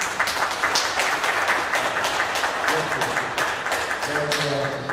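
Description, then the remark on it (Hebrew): An audience claps steadily throughout, a dense, continuous patter of many hands at even loudness, with a faint voice or tone briefly audible underneath near the end, applauding two young men who have just been given prizes at a talk on Pirkei Avot. “תמחו להם כפיים.”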